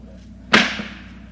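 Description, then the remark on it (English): A single sharp, loud crack of a handmade leather whip snaps out midway, its bright burst trailing off quickly over a low steady background hum, with no talking. “Walker is in the leather business, and he's made all these whips that we use”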